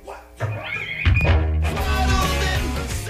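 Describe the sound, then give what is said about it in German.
Dice are thrown, giving a few dull thunks and a short rattle as they land, heard over a steady, fairly loud tonal background with no speech. “Also schmeiß mal Würfel. Ich habe welche mitgebracht. Hört man das? So ist der Sound.”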